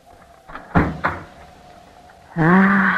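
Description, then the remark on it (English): A door at the top of a flight of stairs is eased open: two muffled clunks from the latch, a short pause, then a long, steady creak of the hinges swinging, with no one speaking. “Now, up these stairs. Here's the door. Softly now.”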